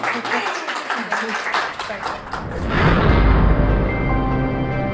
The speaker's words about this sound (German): Vielleicht ein kleiner Applaus.